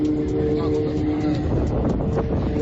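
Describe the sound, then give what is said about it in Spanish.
Several motorboats searching for survivors on the Potomac River in winter after a plane collided with a helicopter: a steady engine drone with a low humming tone, heavy wind buffeting the microphone throughout, and no clear breaks in the rumble. “Varias lanchas buscan posibles supervivientes.”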